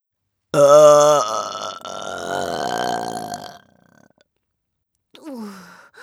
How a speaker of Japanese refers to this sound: またまたすんごいザーメンゲップ出ちゃったね。ザーパラ始まって早々にこんな出しちゃって大丈夫かな。